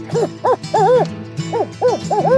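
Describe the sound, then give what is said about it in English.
An American woodcock calls in quick clusters of rising-and-falling nasal notes, about seven in two bursts, loud with no speech. “That's the American Woodcock.”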